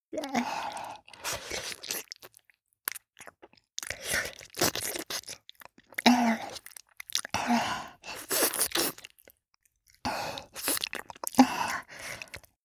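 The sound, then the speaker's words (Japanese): Wet, slurping tongue-licking sounds come in about six loud bursts of squelchy smacking, each lasting a second or so, separated by brief silences, with no speech. “こうやってヌメヌメの舌が這い回って、ゾクゾクが止まらない。”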